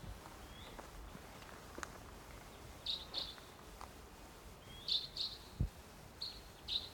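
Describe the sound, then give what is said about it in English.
A wild bird, perched somewhere about 150 or 200 yards away across the gully, calls with short, high-pitched notes in pairs, repeated several times over a quiet, steady outdoor background with no one talking. “wild bird. Wild bird.”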